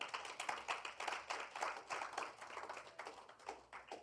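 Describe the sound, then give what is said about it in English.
A crowd claps for the Lord Jesus in a dense, steady patter of many overlapping hands, sustained for several seconds at a moderate level with no voices over it. “Clap for the Lord Jesus.”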